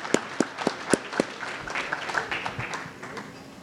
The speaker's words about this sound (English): But if there's anybody from the foundation, please stand. And just in case, we'll give them a round of applause, which we appreciate.